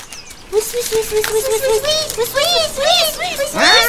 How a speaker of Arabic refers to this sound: أيها الثعلب، أين أنت؟ لماذا تصرخ الأفراخ؟ أين أنت؟